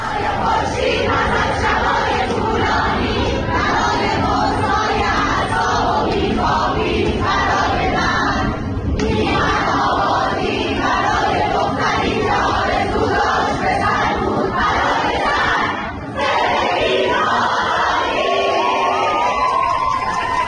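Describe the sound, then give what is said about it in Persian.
A crowd of young women at Soore University shouts slogans loudly and continuously in chorus in the middle of the university, voices overlapping in rhythmic chanting bursts with brief dips, a dense, energetic roar sustained throughout. “دقیقاً مثل همین دخترها تو دانشگاه سوره که دیروز برای هاشون رو وسط دانشگاه اینطوری فریاد میزدن.”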